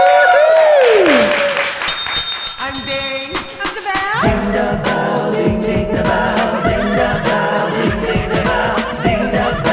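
Swooping electronic tones rise and fall for a few seconds, then a loud, steady burst of audience applause and cheering welcomes the hosts of the show Ding Da Bell, with a low musical drone running underneath.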